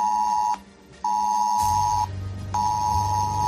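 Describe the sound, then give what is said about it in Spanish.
A loud, shrill ES-Alert emergency alert tone from Spain's alert system sounds on a mobile phone in repeated long pulses with short gaps, while a low buzzing rumble, like vibration, joins partway through. No one speaks. “Bueno, pues si a partir de ahora escuchas este sonido en tu móvil junto a una notificación, será que estás en la zona de una catástrofe, una emergencia.”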